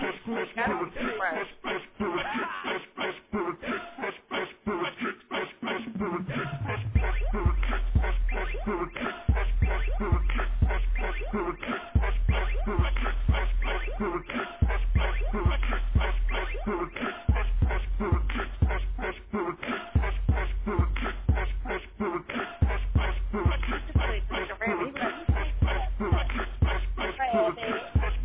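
A rap track plays loudly, with rapid vocals in French over deep, booming bass hits that enter a few seconds in and repeat in a steady pattern.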